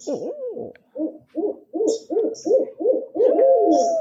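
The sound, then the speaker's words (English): A hunter imitating an owl: a swooping opening call, then a steady run of about seven loud, evenly spaced hoots ending in one long drawn-out hoot. Faint higher chirps sound between them. “I think I heard a hunter hooting.”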